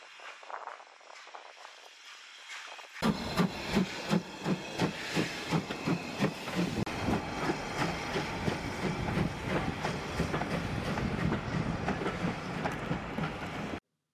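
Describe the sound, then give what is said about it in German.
A steam locomotive pulls a train away from Aviemore with a burst of hissing steam followed by steady, rhythmic chugging that grows denser and faster, loud, with no voices. “Es war sehr schön, ihn noch einmal bei der Ausfahrt zuzusehen, mit Fauchen und Stampfen.”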